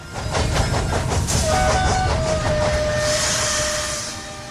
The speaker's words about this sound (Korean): 저녁 어스름 속으로 기차가 도착했다.